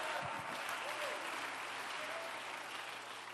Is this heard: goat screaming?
no